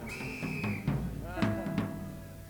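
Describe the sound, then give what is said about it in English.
A shrill, steady blast from an Acme Thunderer whistle lasts just under a second over a noisy audience, followed by scattered voices and murmuring. “Is there more than one Acme Thunderer in the audience? Everybody that's got a whistle, blow it.”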